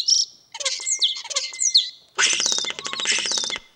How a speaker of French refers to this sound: Alors, ce qui est intéressant dans ce gazouillis, c'est que l'oiseau peut incorporer... En fait, quand vous écoutez un gazouillis des tourneaux, vous savez où il vit. C'est-à-dire que s'il vit en ville, vous avez un bruit de téléphone portable